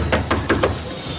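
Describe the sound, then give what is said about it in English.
A door being opened, with four quick, sharp clicks and clacks of the latch and handle, spaced evenly over about half a second, then a quiet background. “Come on, open his door.”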